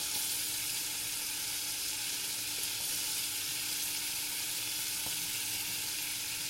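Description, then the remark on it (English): Steady, crackling sizzle of shallot and garlic frying in a generous knob of melted butter in a saucepan, a continuous hiss that holds evenly throughout with a faint scrape of stirring, no voices. “Right, that's melted now, so what I'm going to do is I'm going to throw in that shallot and garlic.”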